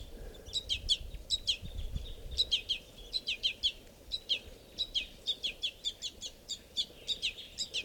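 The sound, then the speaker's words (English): A baby bird's begging calls at a water hole around 7:20: rapid, insistent high-pitched chirps repeated in quick bursts throughout, over a low rumbling outdoor background. The begging baby is sitting right next to an adult male bird. “I'm sitting right down at the water, and this is a begging baby sitting right next to a male.”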